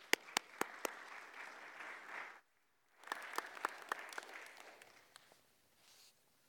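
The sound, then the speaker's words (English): A church audience claps warmly to welcome a speaker in two bursts, a steady patter of many hands with a few sharp, louder claps standing out, then a short pause before the applause resumes and tapers off. “So let us welcome him with a big clap, please.”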